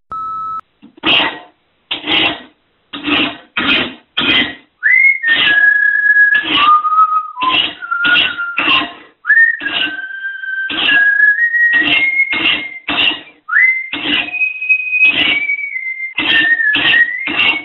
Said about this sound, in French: tout cela n'empêche pas d'affûter les idées pour demain en sifflotant ou en fredonnant les airs bien connus de résistance.